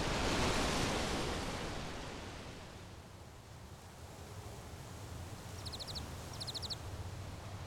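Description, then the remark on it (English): Waves wash noisily onto a pebble shore, a loud surge at the start that recedes and then slowly builds again, with two brief, faint high chirps near the end. “The waves as they crash along the shore, pebbles like thunder as the water rushes through.”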